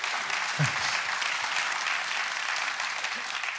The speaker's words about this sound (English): Mom, you can clap for that if you want to because everybody else is being quiet.